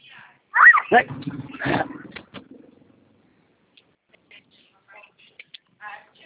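neighbor's dog barking

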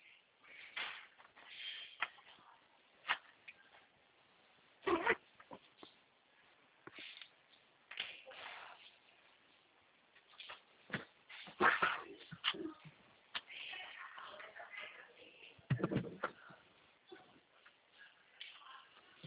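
dog making noise

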